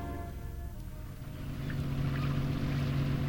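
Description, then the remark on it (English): A motorboat, having turned around, motors away, its engine droning steadily, a low rumbling hum with a faint hiss of water and wind, its pitch firming and growing slightly louder as the boat gets underway. “The boat motors away.”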